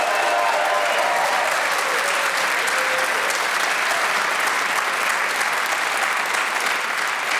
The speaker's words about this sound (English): Please whoop and cheer for all four.